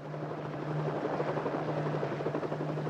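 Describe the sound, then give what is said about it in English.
A helicopter drones steadily outdoors, its rotor chopping in a fast rapid pulse over a constant engine hum, loud and continuous with no voices. “But then we go obviously outside to see this helicopter, and then I think it's very well done where we marry shooting on the actual location and the soundstage.”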